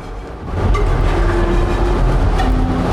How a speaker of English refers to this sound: And he gets onto the subway train.